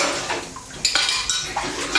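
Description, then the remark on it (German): Dishes being washed, with cutlery and crockery clinking in a quick series of bright, sharp knocks and rattles over a soft wash of running water; no one speaks. “Sie finden Abwaschen langweilig?”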